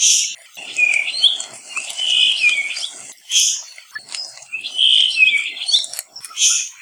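A puaiohi (Kauai thrush), a rare bird of the island of Kauai, sings a clear, warbling song of high, sliding phrases, repeated twice with short pauses, over faint background hiss.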